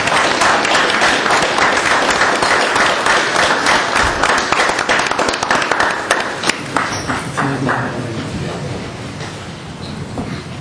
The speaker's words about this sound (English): We'll give you one more clap here.